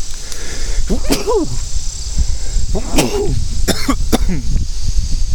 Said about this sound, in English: Wind came up and I started to sneeze. So sneezy.